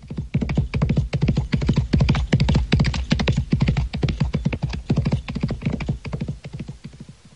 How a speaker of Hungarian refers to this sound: Futtassuk át meg még egyszer a lovakat.